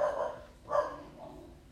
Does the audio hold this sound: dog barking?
yes